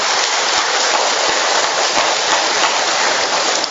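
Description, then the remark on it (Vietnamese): An audience applauds loudly to congratulate those who have Saint Luke as their patron saint, a dense, steady roar of many hands clapping that holds evenly for the whole stretch, with no voices heard over it. “Chúng ta đốt một tràng pháo tay thật lớn để chúc mừng những người nhận Thánh Luca làm bổn mạng.”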